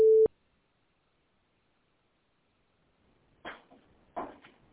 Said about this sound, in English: You have reached the voicemail system. Please leave your message after the tone.